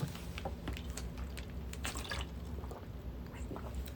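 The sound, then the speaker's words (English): Quiet liquid sounds, with small drips, splashes and gulps scattered over a few seconds against a low steady hum, like water being poured or sipped. “Some water.”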